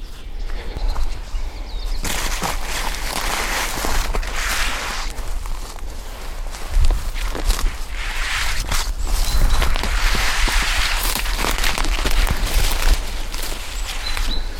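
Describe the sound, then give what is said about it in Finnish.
Steady footsteps crunch over twigs on a forest path on a cold morning while spruce branches repeatedly swish and scrape against a padded jacket, in bursts of loud rustling throughout. A chaffinch sings faintly on the slope underneath. “Tässä on vähän keppejä polun päällä. Ja sitten näitä kuusenoksia, jotka osuu toppatakkiin.”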